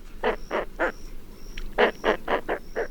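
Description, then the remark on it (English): Roseate spoonbill calls: a group of three low, hoarse grunts, a short pause, then five more in quick rhythm, fairly loud with no voices. “And just about the hottest pink bird of all lives year-round along the Gulf of Mexico, the roseate spoonbill.”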